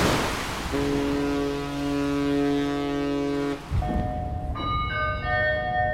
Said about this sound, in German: Verehrte Fahrgäste, herzlich willkommen an Bord der Frisia 6 auf der Überfahrt nach Jüst. Die Überfahrt nach Jüst wird in etwa eine Stunde und 30 Minuten dauern.